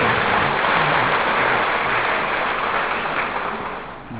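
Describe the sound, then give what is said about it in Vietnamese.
A crowd applauds in encouragement with a dense, steady wash of clapping that holds loud throughout and tapers off slightly in the final second. No voices stand out. “À, tôi cho là hưởng lên tràng pháo tay để cổ võ.”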